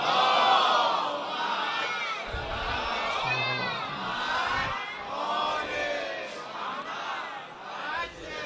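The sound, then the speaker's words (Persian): A large crowd loudly chants a salawat blessing on the Prophet and his family in unison, many voices merging into a sustained, rolling roar that swells and dips over several seconds. “بازم هر چقدر ارادت داری به پیغمبر و بچه های پیغمبر صلوات مردونه ختم کن.”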